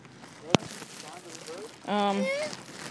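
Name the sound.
water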